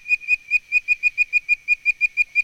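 A tree frog gives a rapid, steady series of high, bird-like whistled chirps, about five per second, evenly pulsed and clear with no other sounds.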